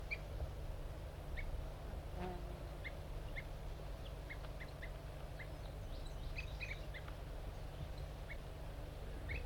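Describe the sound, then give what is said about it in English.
Two captive birds, 5-3 and 4-3, put together in a forced, aggressive encounter and fighting, giving short, high tube calls, repeated irregularly in quick pairs and singles over a steady low rumble of background noise. No one speaks. “Right now the wild male is singing, and I got 5-3 and 4-3 giving tube calls.”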